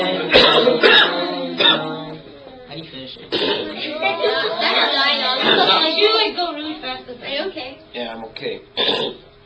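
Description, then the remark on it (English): A person coughs and clears their throat, fairly loud, with short rough bursts breaking up a stretch of continuous chanted verse. “I was okay, and then I coughed and you messed up and I was not okay anymore.”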